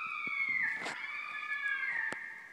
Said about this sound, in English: Yeah, that jaguar sound was a lot. They use it a lot in movies. Just as a normal, it's your go-to. It's like the red-tailed hawk of big cat sounds.